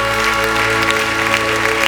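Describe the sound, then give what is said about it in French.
An audience applauds the Lord during a morning church service, a steady dense wash of clapping hands that stays loud throughout, with a sustained low hum or organ tone beneath it and no one speaking. “On peut applaudir le Seigneur ce matin.”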